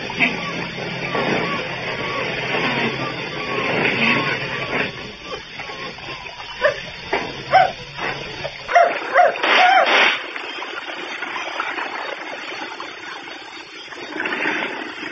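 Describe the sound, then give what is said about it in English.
A dog howls and whimpers in drawn-out, wavering cries, fairly loud, with a few sharper yelps in the middle and a steady background hum throughout. “Oh, but can't just bloody well stop howling.”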